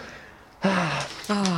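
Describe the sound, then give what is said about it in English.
A drawn-out, breathy yawn with a low voiced groan that slides downward, then a second shorter yawning exhale right after. “Oh, my Yawn God. Yawn away.”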